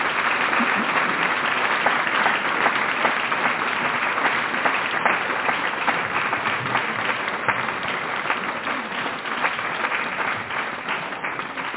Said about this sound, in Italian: C'è un'ultima persona a cui vi chiedo di fare un grosso applauso